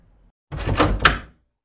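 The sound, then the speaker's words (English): A door swings open and shuts again, a brief creak-and-clunk sequence lasting under a second, with two sharper knocks and no voices. “Lock the door and take a seat.”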